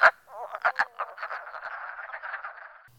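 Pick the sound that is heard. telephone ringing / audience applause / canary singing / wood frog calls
wood frog calls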